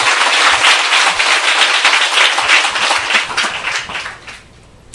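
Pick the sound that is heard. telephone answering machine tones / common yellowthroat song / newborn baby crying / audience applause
audience applause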